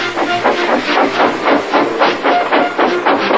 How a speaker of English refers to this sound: Gordon, with much noise and blowing of steam, got ready to back onto the train.